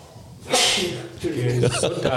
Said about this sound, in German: Was sagt der Franzose eigentlich, wenn du niest?